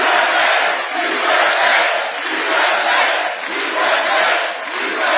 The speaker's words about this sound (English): An enthusiastic crowd greeted President Trump at a rally in a Cleveland suburb Saturday, the last special election before the midterms.